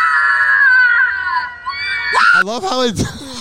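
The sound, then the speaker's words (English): A loud, sustained high-pitched scream holds steady for about two seconds, then abruptly sags and dies off, giving way to someone talking. “It was like the like battery died of like the annoying person screaming.”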